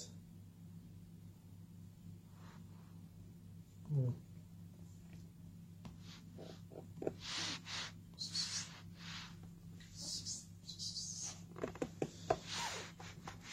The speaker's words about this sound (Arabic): يا عم القطة اللي جايه لنا كده مش عارف. طب دي قطة جديدة، ايه اللي خلاها تجي لنا كده؟